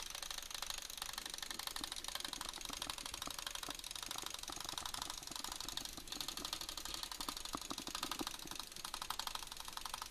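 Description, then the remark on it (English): Rapid computer mouse clicking on a click-speed test website, a dense, steady stream of sharp, dry ticks, 122 clicks in 10 seconds, continuing without pause with no voices. “I'll just show you how fast you can click now, because people have been asking for that as well.”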